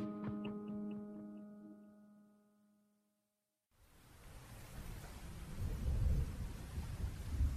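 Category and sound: nature, thunderstorm with rain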